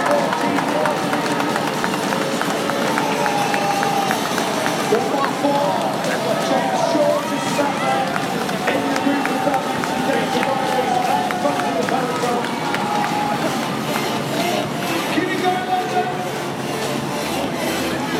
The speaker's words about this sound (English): Should be coming pretty soon, I think. Hear the people banging on the rails. And there goes the peloton.